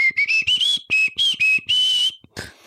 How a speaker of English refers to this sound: Dang, good whistle. Yeah. It was good.